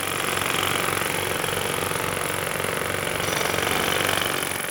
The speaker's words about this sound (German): Nicht weit von seinem Elternhaus war eine große Baustelle.